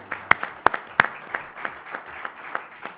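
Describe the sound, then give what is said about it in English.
An audience at a Valero Alamo Bowl event applauds title sponsor Valero steadily for about three seconds, with a few sharp, loud individual claps standing out from a dense, fairly even patter of hand claps; no voices can be heard. “let's have a round of applause for Valero as our title sponsor.”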